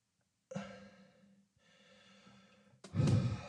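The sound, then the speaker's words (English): Two long, slow deep breaths, each a soft, airy rush, followed by a sudden louder, heavier burst of breath at the end. No one speaks. “Deep breaths, deep breathing.”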